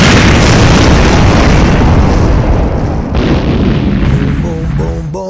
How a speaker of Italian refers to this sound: Ammazza che bombe.